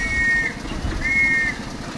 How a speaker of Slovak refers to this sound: Môžem sa vás opýtať, je tu taký hluk, čo je to za železnica? Je to lesná železnička Katarínka, kde v rámci cyrilometodejských dní prevážame mladých ľudí.